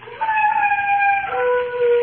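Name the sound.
dog howling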